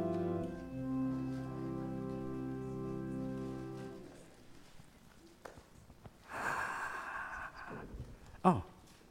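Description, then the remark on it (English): Sustained musical tones fade out at a church worship service, then a heavy breath rushes loudly into the microphone, followed moments later by a short, sharp, snort-like exhale. “Did you hear my breathing?”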